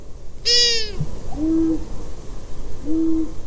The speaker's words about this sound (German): Ich habe mich geirrt. Das, was man da gehört hat, war tatsächlich das Weibchen einer Waldohreule. Und dieses Hu, was wir noch hören, ist der Mann. Das ist ein sogenannter Wechselgesang während der Balz.